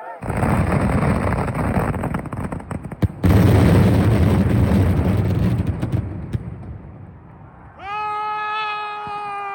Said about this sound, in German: Tatsächlich waren die 5000 Kugelbomben das große Finale eines richtig geilen Feuerwerks in Mislata, einem Stadtteil von Valencia. Hier lief alles nach Plan